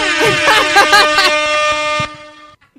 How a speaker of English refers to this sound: I would just walk in and like, we could like hire some trumpet blower people to come in and like, and announce me or whatever. Yeah. Lords and ladies of the land. You could get some kind of trumpet that sounds like this.